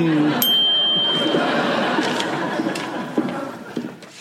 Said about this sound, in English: Oh. I thought I heard the bell toll. Close enough.